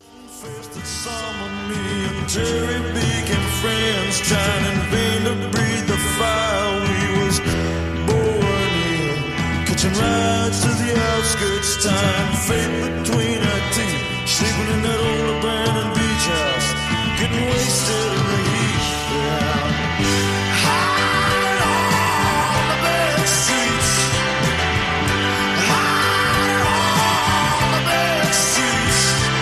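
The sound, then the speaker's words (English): A loud full-band rock song plays steadily from start to finish, with driving guitars, drums and a prominent male vocal that grows more strained and shouted toward the end. “… is a great song, dude. We can play a little bit of that.”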